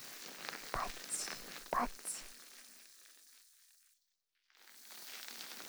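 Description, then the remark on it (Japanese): A carbonated drink fizzes with a soft, crackling hiss, punctuated early by two sharper pops. The fizz fades, cuts out briefly, then returns as a quiet, steady sizzle. “シュワシュワ。”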